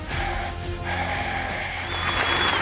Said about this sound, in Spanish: Ay, mira, me aplaudieron hoy y ni siquiera es mi cumpleaños.